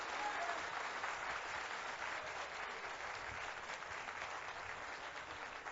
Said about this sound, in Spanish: Este aplauso es para el ministro Eduardo Estrella.